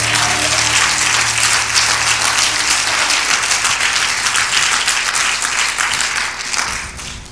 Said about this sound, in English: Can we clap our hands for the word of the Lord?